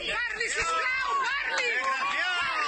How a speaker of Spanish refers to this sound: Son los abucheos de algunos trabajadores junto a un centenar de personas que reclamaban diálogo. Hable, por favor, hable. Es lo que hemos escuchado junto a los gritos de libertad presos políticos.